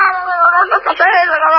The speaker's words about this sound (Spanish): Está haciendo un escándalo. Bueno, entonces. Se oyen los berrinches del niño.